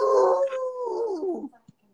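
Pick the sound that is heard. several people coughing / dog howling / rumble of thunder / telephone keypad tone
dog howling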